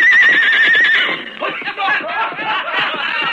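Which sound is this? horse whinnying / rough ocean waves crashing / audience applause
horse whinnying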